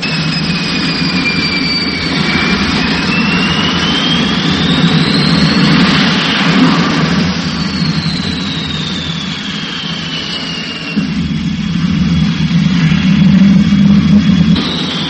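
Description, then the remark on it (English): A jet aircraft engine roars steadily throughout takeoff, a thick low rumble beneath a high whining tone that glides up and down in pitch. No voices are heard. “Imagine taking off from Broadway and 47th Street, but that's what we've done.”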